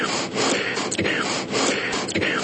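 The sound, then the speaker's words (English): Loud alternate nostril breathing, with rapid inhales through one nostril and exhales through the other following one another in a steady, breathy rhythm, with no talking. “Alternate nostril breathing.”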